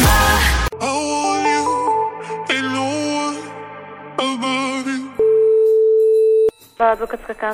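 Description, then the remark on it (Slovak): A steady telephone ringing tone on a call to a law office in Banská Bystrica sounds once for over a second, clear, preceded by busy melodic tones and followed by a brief voice. “Ale keď nezdvihneš telefón.”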